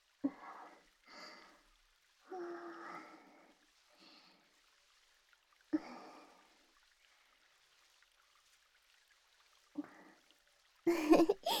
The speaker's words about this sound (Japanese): まずはこうやって全身にボディーソープをつけるんです。